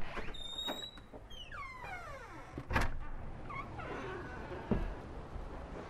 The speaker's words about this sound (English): And I'm testing to see how the stereo microphones are picking up all of this. Now I'm opening the door.